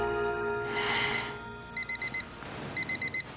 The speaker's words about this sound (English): She shuts off her alarm and sits up, then pauses.